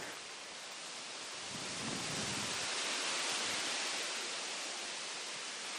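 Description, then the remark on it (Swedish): A heavy rain shower pours down on a garden with a red cottage in a dense, steady hiss that swells slightly midway through, with no voices and no pauses in the downpour. “En häftig regnskur får oss att ta vår tillflykt till den röda stugan.”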